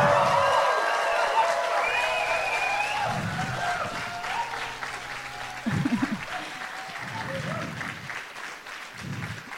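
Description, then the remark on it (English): A large crowd applauds steadily for nearly ten seconds in a big yell for all the youth involved across the country, with high whoops, whistles and shouted cheers rising over the dense clapping before it eases slightly toward the end. “Also, I think we should do a big yell for all the youth that have been involved in this entire thing across the country.”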